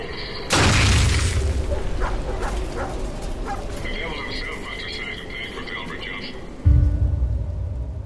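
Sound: explosion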